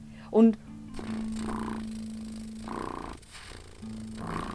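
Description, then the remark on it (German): A person's voice imitates a cat with one short, loud meow, then shifts into a steady, low, purring hum that continues softly to the end. “Zum Beispiel, mir wurde sogar schon öfters gesagt, ich könnte Katzenmiau sogar fast echt imitieren.”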